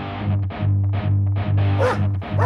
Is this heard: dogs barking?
yes